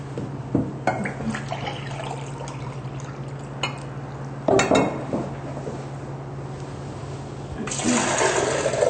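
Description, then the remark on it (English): Two cups of water pour steadily into a pot for making cream of spinach soup, a continuous rushing splash with a few sharp clunks along the way and a louder surge near the end over a low background hum. “Two cups of pure water.”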